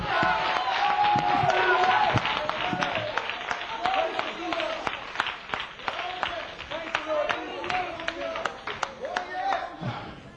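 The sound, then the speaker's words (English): A church audience claps their hands in a sustained burst of applause for God, many overlapping claps, with voices calling out and cheering throughout. “How many want to be a prisoner tonight? Give God a hand clap tonight.”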